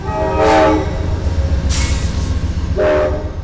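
A train horn blasts twice in loud, sustained tones, with a shorter burst between, over the steady low rumble and clatter of railroad cars rolling past.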